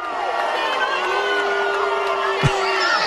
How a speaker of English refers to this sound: Yeah, I mean, play the booing. Do you have the booing? I do. You ready?